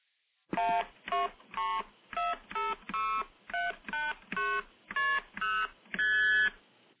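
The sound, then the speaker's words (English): A series of twelve short, musical multi-frequency telephone signalling tones beep in quick, even succession, each a bright chord of pitches, with the final tone held slightly longer. No one speaks. “And those are your multi-frequency tones.”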